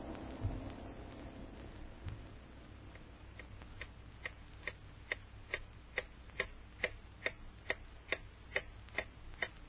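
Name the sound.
clock ticking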